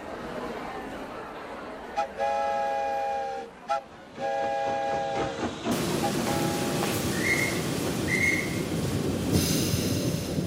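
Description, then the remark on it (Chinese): A steam funeral train carrying Abraham Lincoln's coffin gives two long, steady whistle blasts, then a loud, continuous rumble and hiss of the locomotive slowly rolling past. “每座城市的铁路沿线都挤满了人，他们默默地站在那里，眼里面含着泪水，看着火车缓缓驶过。”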